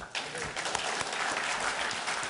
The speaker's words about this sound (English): Everyone is quite silent right now, but hopefully we'll all get... Can everyone just like clap for a moment? Just like...